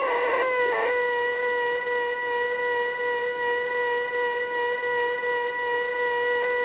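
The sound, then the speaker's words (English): A steady electronic tone played by a caller on the air, holding one unchanging mid-high pitch for several seconds, loud and continuous, with a brief wobble near the start and no voices, sounding thin like it's over a phone line. “Is that a sine wave?”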